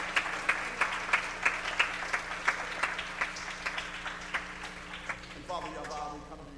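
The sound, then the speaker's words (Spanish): A church audience applauds the Lord in a steady, rhythmic clapping beat, a dense crowd of hands roughly two claps per second, before a voice begins speaking over the fading applause at the end. “Aplauda al Señor.”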